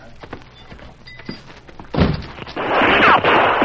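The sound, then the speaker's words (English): Gunshots fired by a man inside a tunnel at the people outside: a few soft thumps, then a sharp blast, followed by a louder, drawn-out roaring report with a brief whining streak running through it. “He's firing at us.”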